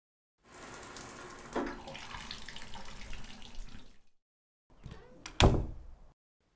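shower water running

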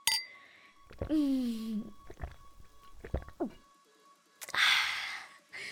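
beer glasses clinking

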